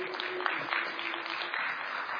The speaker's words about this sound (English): Give a round of applause. There you go.